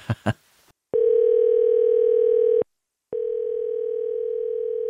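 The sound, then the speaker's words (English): A telephone rings down the line: two long, steady electronic ring tones separated by a short silence, preceded by a couple of quick clicks, with no voices. “All right, then let's just wait here till the phone rings.”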